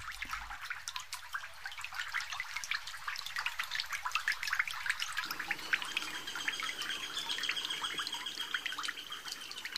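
Water trickles and patters steadily in a stream in green oak forest near Sisakht, in a mountainous region, a continuous bubbling flow with scattered drips, while faint bird chirps sound in the background. No one speaks.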